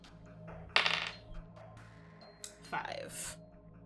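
A ten-sided die (d10) is rolled and clatters across a hard surface in two brief bursts: a sharp rattling tumble, then a lighter skittering roll that settles, landing on a five. Faint low background hum underneath.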